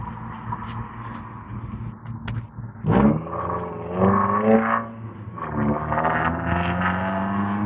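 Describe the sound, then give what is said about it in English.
A loud manual-transmission car's engine revs up, its pitch climbing, dropping briefly as it shifts gears, then climbing again as it passes, with no talking over it. “I'll wait while you take your noisy ass car out of the way.”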